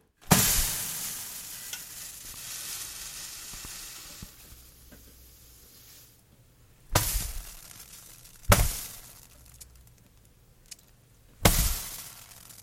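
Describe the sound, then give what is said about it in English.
Water hisses and sizzles on a hot burner, the crackling steam slowly dying away, then three abrupt, loud puffs of sizzle burst out one after another and quickly fade. “Poof, vanish gone water burner.wave.”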